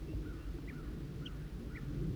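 A female bird gives three short, high chittering notes about half a second apart, fairly faint against a steady low rumble of outdoor background noise.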